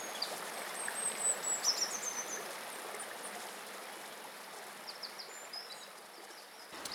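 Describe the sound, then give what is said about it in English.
Steady rushing water of a river in a valley of heavily grazed sheep country flows continuously, a broad babble with small splashes, while faint high bird chirps come through now and then in the background. “The river is very productive, lots of insects coming off it, and really most of the trees in the valley are just along the sides of the river.”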